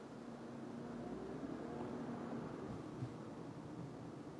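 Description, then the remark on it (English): Dense traffic from many cars at an intersection makes a continuous, even wash of engine and tire noise with a low rumble and no distinct individual passes. No one speaks. “Okay, cars. There are a lot of you.”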